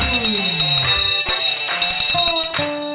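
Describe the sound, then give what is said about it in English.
A town crier hand bell rings loudly and steadily for a few seconds, its repeated clangs blurring into a bright, shimmering tone with lingering metallic overtones, with no one talking. “I like the town crier bell there much better.”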